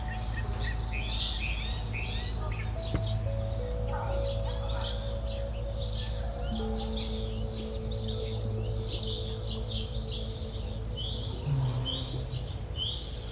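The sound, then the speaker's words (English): A dense chorus of many birds chirps and sings continuously, their overlapping calls filling the air over a steady low hum in the background. “Did you hear all the birds? Oh my God. So many birds.”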